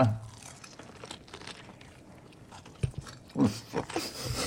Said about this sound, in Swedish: Så ska vi ta första tuggan av det här mästerverket. Alltså, vänta, nu innan ni tar tuggan bara.